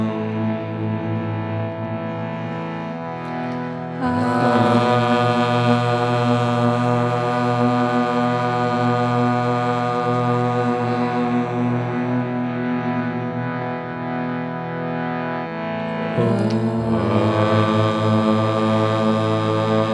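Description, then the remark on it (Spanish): Several voices chant a long, low Om in unison as a mantra practice, begun after a deep breath with the mouth slightly open, a steady humming drone rich in overtones that swells anew twice after short breaths, with no talking alongside. “Podemos empezar con una respiración profunda y ligeramente abrimos la boca y empezamos a entonar el sonido de OM.”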